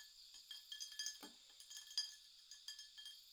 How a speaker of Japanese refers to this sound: 氷の音がよく合います。